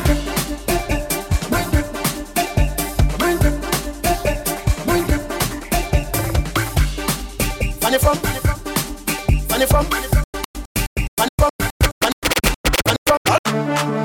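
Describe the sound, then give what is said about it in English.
A DJ's turntable scratching over a loud, busy beat, breaking near the end into rapid choppy stutters of sound cut with brief silences. No one speaks. “You're hearing the sounds of ….”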